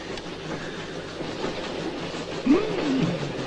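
Steady low rumble of a moving train heard from inside a carriage, with continuous rattling and clatter, and a brief squeal of wheels rising near the end. No one speaks.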